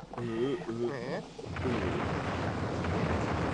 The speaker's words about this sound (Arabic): هناك عاصفة رعدية.